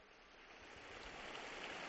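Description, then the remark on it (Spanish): A large crowd in the square applauds, a dense, steady wash of clapping with no single claps standing out, swelling slightly louder over two seconds. No one speaks. “Aplauso lógico.”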